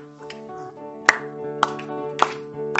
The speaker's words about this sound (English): But that means that we got to move around and we got to clap. And so you guys be the percussion this morning, and let's bring the sacrifice of praise.